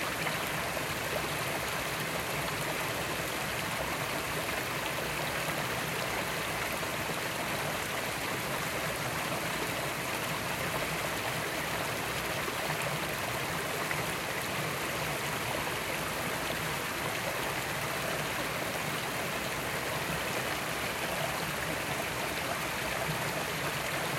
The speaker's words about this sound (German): Hörst du den Fluss? Hörst du das Plätschern?